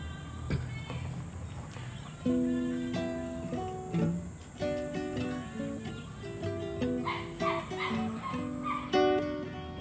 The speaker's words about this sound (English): as the butterflies dance by, and the birds they sing their sweet melodies